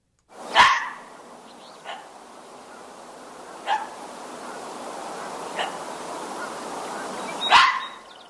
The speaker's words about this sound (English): That's how a fox barks.